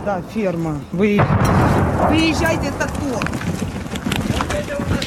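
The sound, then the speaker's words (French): Heavy booms of artillery shelling and sharp bursts of gunfire in an exchange of fire fill the scene with a loud, continuous rumble after a sudden blast, while voices talk at the start and intermittently underneath. “C'est l'heure, et nous le savons, où les échanges de tirs sont les plus violents.”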